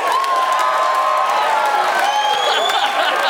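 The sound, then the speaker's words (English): A live show audience claps and cheers loudly and steadily, with whoops and shouts rising over a dense wash of applause that fills the whole moment. “All right, let's do a round of applause.”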